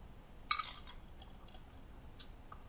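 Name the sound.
sipping water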